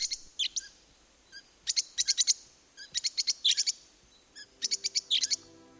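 Bright, high-pitched lovebird chirps come in quick bursts of three to five sharp notes, separated by brief pauses and softer single tweets, with no talking.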